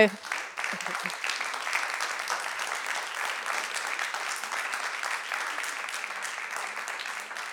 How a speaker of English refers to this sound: Thank you to the Bell Stiftung, and here there's a big audience that is clapping the hands.